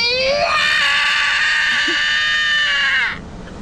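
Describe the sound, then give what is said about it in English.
A young boy lets out one long, loud, high-pitched scream that holds steady for about three seconds before cutting off, with no talking over it. “Why is he screaming?”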